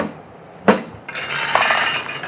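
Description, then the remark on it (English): Two thumps on top of a peanut vending machine: a sharp, loud knock, then a second hit that sets off a steady, bright rattling clatter lasting over a second. No voices. “Then he thumped the machine on top here, twice, like this.”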